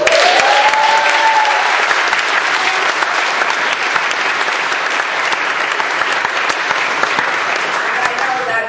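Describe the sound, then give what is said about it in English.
Loud, sustained applause from an audience clapping for the grace of God, a dense steady wash of many hands clapping that holds its level for the full stretch, with a brief faint vocal sound early on. “that clap is for the grace of God that has done for me the same thing that it has done for you, is doing for you on a 24-hour basis, breath by breath, if you so allow it.”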